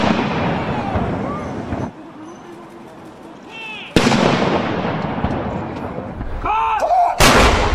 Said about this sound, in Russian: Отряд королевской конной артиллерии прибыл в лондонский Грин-парк, расположенный у Букингемского дворца. Здесь из орудий времен Первой мировой войны был произведен 41 орудийный залп.